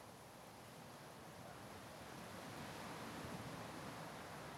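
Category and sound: nature, ocean surf and waves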